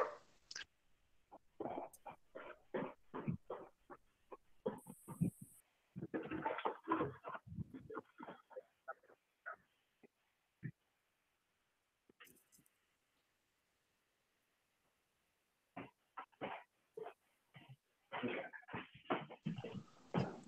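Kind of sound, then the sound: animal, dog barking indoors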